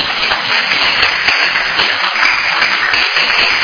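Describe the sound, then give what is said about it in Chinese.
A group claps together in a dense, steady burst of applause that stays loud and even for a few seconds, with no voices on top. “只有他坐上，我们给他拍手一下。”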